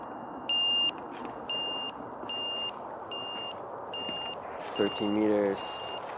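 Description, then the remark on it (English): A handheld avalanche transceiver beeps steadily during a mock search at the start of ski season, a short high-pitched tone repeating about once per second, six or seven times, over a constant rushing background noise with a brief harmonic sound near the end. “I pull out the transceiver, I check the batteries, and I go through a mock search.”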